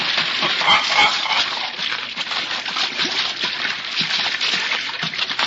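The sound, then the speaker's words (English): A goose is let down into the water to catch trout and splashes in, followed by a steady stretch of sloshing and splattering that stays moderately loud throughout, with no one talking. “let me, darling, down into the water now.”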